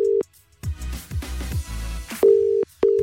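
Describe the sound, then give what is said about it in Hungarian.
A steady telephone dial tone sounds briefly as a call is placed, then gives way to a stretch of low rumbling clatter, followed by two more clear, loud tone bursts separated by a short gap, like a call connecting. “Ő írt nekem, hogy a kedvesét Ferit hívjuk fel”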